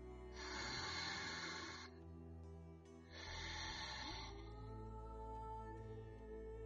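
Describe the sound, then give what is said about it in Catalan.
Two slow, deep breaths, each a long airy rush of about a second and a half, separated by a short pause, over a faint steady low hum with no talking. “Respirem.”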